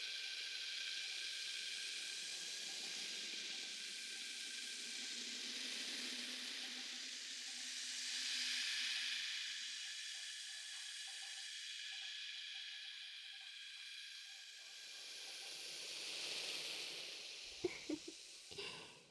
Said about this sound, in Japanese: 徐々に多くなっていくはず。ほら、両耳にすり込めている炭酸が少しずつ少しずつ泡立ってきました。